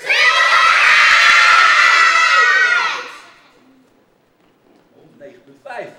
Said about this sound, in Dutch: Zo hoog mogelijk. Laten we over Barneveld heen. Barneveld was 109, geloof ik. Daar gaan we overheen, ja? En nu schreeuwen we... Schreeuw het uit. Dat gaan we met z'n allen schreeuwen, ja? 1, 2, 3 en dan schreeuw het uit.